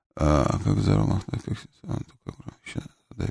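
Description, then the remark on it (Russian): A deep, rough bear growl rumbles loudly for about a second, followed by a run of shorter gruff, voice-like grunts and snarls. “Что вы мне здесь какого-то медведя прислали?”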